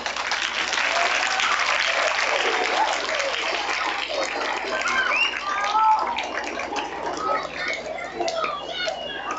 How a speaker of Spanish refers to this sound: A continuación, alumnos del cuarto básico A rinden homenaje al Día del Libro. Los recibimos con un aplauso.